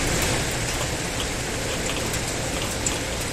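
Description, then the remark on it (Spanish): Steady rain pours down early in the morning on the first day back to school, a dense, continuous hiss with fine pattering drops striking a surface, unbroken and fairly loud throughout, with no voices. “Y una vuelta al cole, oye, a primera hora que ha estado pasada por agua.”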